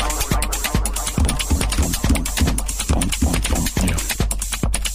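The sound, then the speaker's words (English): Rapid clicky mechanical keyboard typing, fairly loud, with sharp keystrokes in an uneven, steady rhythm over a low background hum. No one speaks. “my keyboard in microphone.”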